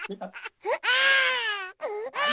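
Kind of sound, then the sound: human body sound, baby crying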